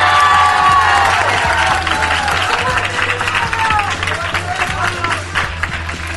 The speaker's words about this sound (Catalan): Han vingut ben acompanyats i volem que es noti, així que demano un fort aplaudiment per l'Institut Ribera Baixa del Prat de Llobregat.